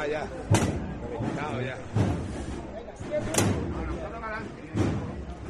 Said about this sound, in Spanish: Suenan las horquillas.